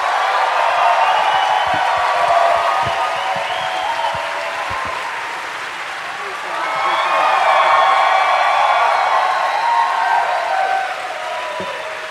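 A crowd applauds steadily for about twelve seconds, dense clapping mixed with scattered cheers and whoops, swelling louder around the middle before settling back.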